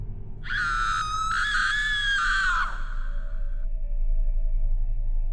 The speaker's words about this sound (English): I suddenly heard a female shriek from somewhere close by.